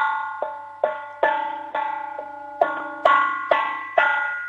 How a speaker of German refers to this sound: lauf mal in die Küche, hol einen Kochtopf und einen Löffel und dann möchte ich so richtig viel Lärm hören. Klopf mal drauf, weil ich liebe Lärm. Und wenn er dann noch übers Radio kommt, noch viel toller.